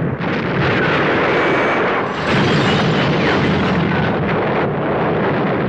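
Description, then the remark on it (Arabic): A car overturns and rolls over again and again in an area near Halban, a loud, continuous roar of crashing metal and grinding thuds with no pause, lasting several seconds and heard alone without any talk. “وفجأة حصل ما لم يكن في الحسبان، في منطقة قريبة من حلبان تنقلب السيارة وتتزحرج مرة تلو أخرى.”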